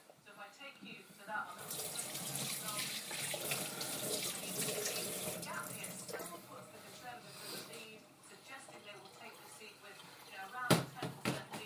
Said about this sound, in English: Now, if you lose any beer whilst pouring, there'll be trouble.